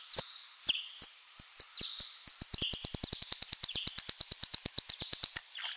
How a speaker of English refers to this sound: All bats drink on the wing, and when they approach the water surface, they broadcast a buzz. The recording is slowed down 10 times because those are ultrasounds.